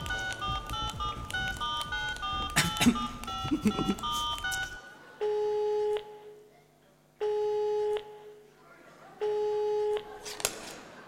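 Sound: telephone call ringing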